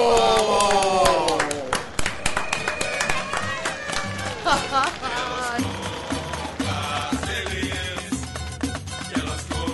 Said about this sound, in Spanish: Gracias por la compañía y fuerte ese aplauso.